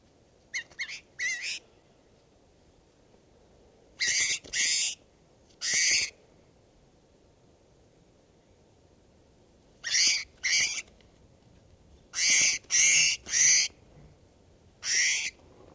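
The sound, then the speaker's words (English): A bird calls repeatedly in short, high-pitched, harsh bursts, some doubled or tripled in quick succession, with pauses between groups and no talking. “This is bird 518.”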